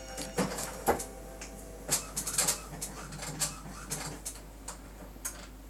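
A printer powering up in the background: a series of quiet mechanical clicks and ticks at irregular intervals, with faint whirring underneath and no voices.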